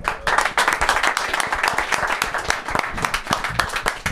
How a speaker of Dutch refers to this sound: Ja, top. Nou, applaus.